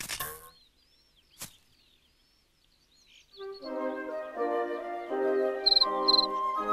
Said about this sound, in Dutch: Welkom, chirpte een grote krekel en wreef met zijn vleugels langs elkaar.